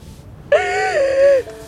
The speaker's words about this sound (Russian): Она успокаивает Алекс, гладит ее по спине. Не плачь.